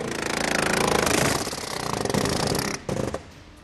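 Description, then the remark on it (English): Loud, dense machinery noise at Haier's American refrigerator factory in Camden, South Carolina, where workers attach the seal on a refrigerator door; a rapid, pulsing mechanical rattle holds steady for a few seconds before briefly cutting out and returning in a short burst. “Half a world away in Camden, South Carolina, American workers are attaching the seal on a refrigerator door. This is the American factory of Haier, a Chinese company that's probably the closest China gets to a known international brand.”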